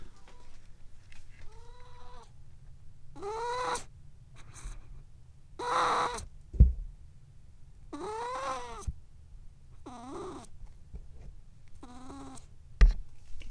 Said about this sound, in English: Oh, here we go. Kitty poop sounds.